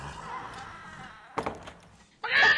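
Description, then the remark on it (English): A door is opened to let a galloping horse inside, with a dull thunk and rattle, followed by a sudden loud, bright scraping burst at the end, over a murmur of low background sound. “would you open the damn door?”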